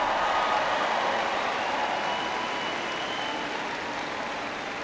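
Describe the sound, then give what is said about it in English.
An audience at UC Boulder applauds steadily for Chancellor Phil DiStefano, a dense wash of many hands clapping at once that holds for the full stretch and eases off slightly toward the end, with no voices over it. “Give him a big round of applause for having me here today.”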